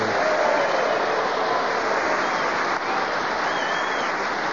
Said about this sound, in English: But now let's have a big round of applause for the winner this week, Clement Freud!